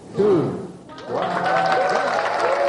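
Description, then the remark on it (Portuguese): A crowd breaks into applause and excited cheering after a brief raised voice, as a live broadcast from the University of Nairobi shows Kenya's first satellite, a cube-shaped satellite, launched from the International Space Station; the clapping is dense and sustained with shouting voices mixed in, loud to the end. “Os caminhões aplaudiram no momento em que uma transmissão direta da Universidade de Nairobi mostrou o primeiro satélite a ser lançado da Estação Espacial Internacional.”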